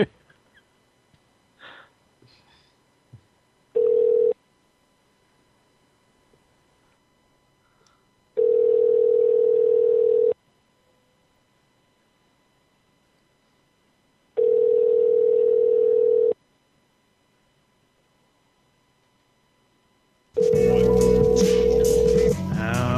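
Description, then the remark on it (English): A phone line's ringback tone on an outgoing call to the Rocky Mountain Quarter Horse Association: four steady mid-pitched buzzing rings, each about two seconds long, separated by roughly four-second silences. A rush of noisy sound starts with the final ring. “Should I call her again?”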